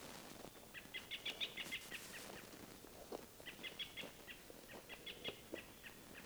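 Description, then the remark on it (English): American robin alarm calls in the woods: sharp, high notes repeated in quick bursts, clear, with brief pauses between volleys over a steady outdoor background hiss. “robins are calling, giving like alarm calls all through the woods.”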